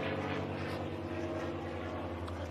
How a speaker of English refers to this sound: It's a loud plane.